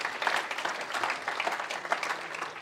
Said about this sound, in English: Shout out to all our kids' leaders. Let's give them a really big round of applause. They are phenomenal.